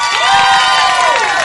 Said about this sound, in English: By round of applause, let me hear the single people.